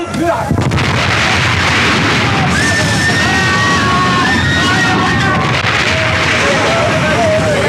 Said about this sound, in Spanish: las calderas han estallado. Las calderas han estallado. El fuego cunde a bordo.